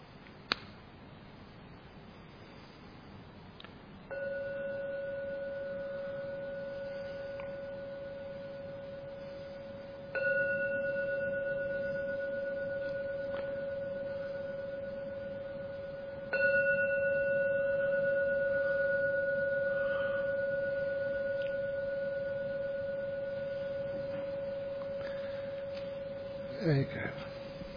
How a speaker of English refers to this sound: When the gong finishes sounding for the 3rd time, it's the signal to come out of your meditation.